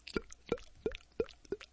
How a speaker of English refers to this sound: Sounds like drips, huh?